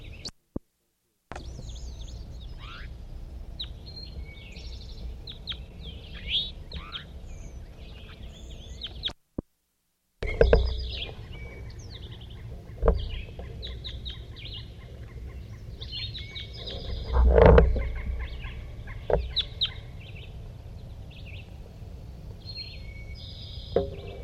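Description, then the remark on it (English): Loud crossbill calls from a large-race crossbill: a steady stream of sharp, high, clipped kip notes in irregular bursts, with a few low thumps and a brief break partway through. “Recording the loud crossbill in the same position as before.”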